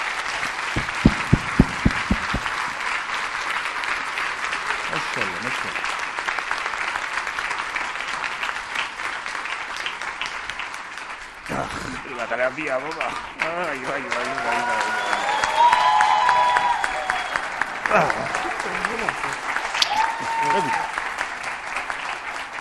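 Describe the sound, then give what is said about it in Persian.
A crowd applauds a speaker steadily for over twenty seconds, a dense, continuous wash of clapping, with some voices and whoops rising through it partway. “باشه، تشویقش کنی بعدی بگی من میام پلوب صحبت میکنم.”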